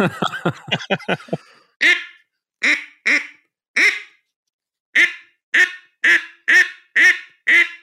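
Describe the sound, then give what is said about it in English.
An Iverson duck call is blown, opening with a fast run of short chattering quacks, then about ten loud, raspy single quacks spaced irregularly, with no talking. “But here's my Iverson duck call. I can do a couple blows.”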